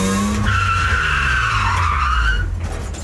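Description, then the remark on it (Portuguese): An old Mercedes's tires screech loudly for about two seconds as it cuts in front of another car in a horse-racetrack parking lot, a sustained whining squeal over a low engine rumble, then the squeal cuts off while the motor keeps going. “Eu estava num baixo astral quando um ricaço escroto, acompanhado de sua inexpressiva namoradinha, numa Mercedes velha, cortou a minha frente no estacionamento do hipódromo.”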